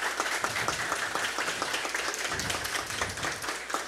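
A crowd claps steadily for a woman being thanked, many hands striking in a dense, continuous patter that stays fairly loud and even for the whole stretch, with no voices standing out.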